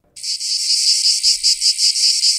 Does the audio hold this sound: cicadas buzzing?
yes